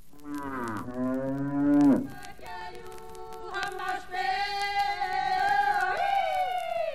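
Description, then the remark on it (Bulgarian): A cow lets out a loud, deep moo, followed by several higher-pitched, drawn-out calls from a calf, with no talking. “Че, знаеш ли тая крава и това теле чии са?”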